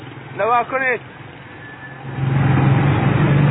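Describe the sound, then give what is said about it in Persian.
A brief voice, then a heavy engine rumble that swells in and holds steady as trucks drive in with their engines running loudly, in Iran, where the trucks are being loaded with sheep for export to Arab countries. “الان این چند تا دیگه ماشین رفته داخل و خبر نداره، همه میره کشور عربی.”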